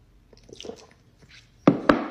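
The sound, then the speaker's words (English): Soft, wet squishing mouth noises build up, followed by two louder, abrupt slurps in quick succession near the end, with no talking. “The slurps?”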